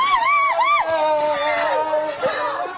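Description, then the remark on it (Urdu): Agitated crowd commotion with overlapping shouts and raised, strained voices, a loud, continuous din of people yelling amid chaotic noise as protesters against military rule carry away a man shot during police gunfire, with police advancing through tear gas smoke. “Firing کے دوران انہیں اٹھا کر لے جایا جا رہا ہے, وہ زخموں کی تاب نہ لا سکے.”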